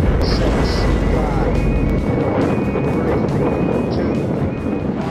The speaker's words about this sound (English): In July 1969, a Saturn V launched the astronauts of Apollo 11 on their historic mission to land on the moon. Ignition sequence start.